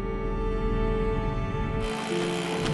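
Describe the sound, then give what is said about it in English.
The propeller of the outboard motor on Mr. Parks' capsized boat, floating on a lake, whirls freely in the air, a steady, droning mechanical whine that holds constant and turns brighter and harsher partway through, with no voices. “Parks' capsized boat floats with the propeller of its outboard motor whirling uselessly in the air.”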